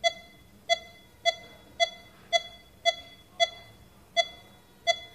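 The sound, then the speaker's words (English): A person's heartbeat tracked by a monitor's sharp electronic beeps, nine in a row, quickening as the person breathes in and then slowing again as they breathe out, heard alone against a faint background hum. “Listen, speeds up on inspiration, slows down on expiration. Do you hear that?”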